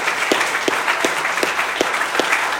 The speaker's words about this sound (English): And we know that, remember, teens, we applaud, not each other, but we applaud the Lord and what he does in our lives, and so praise God for that.